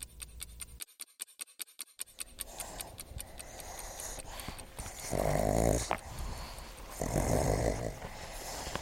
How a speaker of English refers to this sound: The pugs are play-bowing each other, sniffing each other's butts, making noise as normal. As you say, it's the soundtrack of our life, and I'm grateful for it. My dogs.